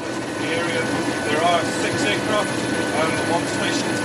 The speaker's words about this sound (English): This was a New Zealand Air Force surveillance plane heading out, one of more than 300 such flights.